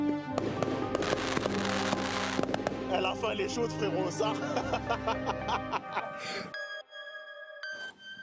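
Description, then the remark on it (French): A fireworks sound effect: a dense flurry of crackling pops and bursts for several seconds, fading into bright, shimmering chime-like tones that ring out at the end. “Des petits feux d'artifice pour cette recommandation, j'ai envie de vous dire, c'est juste brillant, SKH.”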